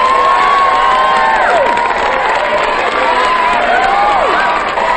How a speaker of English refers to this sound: The crowd roars its applause as Zach makes his way onto the stage.